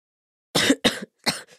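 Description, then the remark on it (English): Three harsh coughs in quick succession, the first two longer and louder, the last shorter with a faint trailing rasp, with silence before them. “Mom, can I have some milk and honey for my cough, please?”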